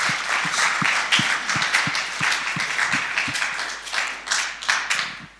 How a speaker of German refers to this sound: Vielen, vielen Dank. Ich glaube, da können wir einmal einen Applaus geben für die Mutigen.